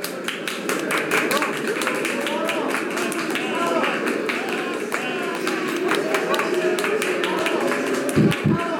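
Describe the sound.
A crowd applauds steadily at an award presentation, many hands clapping in a dense, sustained patter at a fairly loud level, with a murmur of voices mixed in beneath it.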